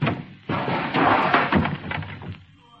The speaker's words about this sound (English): And a door came off in my hand.